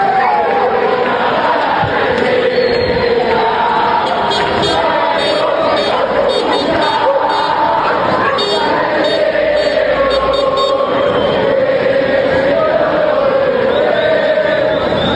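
A large crowd of football fans sings a chant together, loud and continuous, with a steady rhythmic melody carried by hundreds of voices and bits of shouting mixed in.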